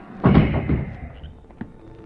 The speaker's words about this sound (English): Here's the outside door. Double doors, wide enough for a wagon. Open one.